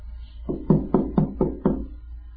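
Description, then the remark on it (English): Someone knocks on a door, about five firm, evenly spaced raps in a steady rhythm, moderately loud, with no voices. “You hear him knocking.”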